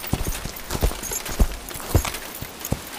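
Horse hooves clop in an uneven rhythm as a horse is dragged up a rocky forest hill in the rain, several sharp knocks spread across a few seconds, with a steady hiss of background noise beneath them and no voices.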